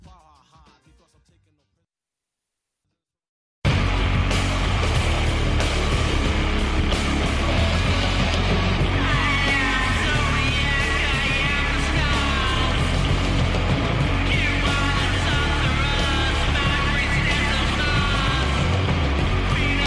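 After a few seconds of silence, a heavy rock song crashes in: a loud, thick wall of distorted, droning guitar with a deep, rumbling low end that stays dense and relentless throughout.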